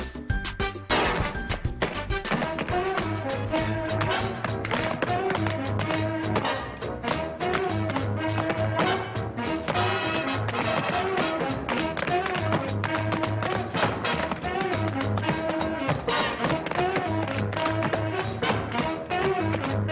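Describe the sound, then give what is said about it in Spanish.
Lively instrumental intro music for the Curioseando segment of the show Levántate Cuba, with a steady, rapid zapateo of stomping, tapping footwork driving the rhythm throughout, loud and continuous with a low bass pulse underneath; no one speaks. “A mí me encanta que haya música introductoria porque hay un zapateo, no sé qué quiere decir.”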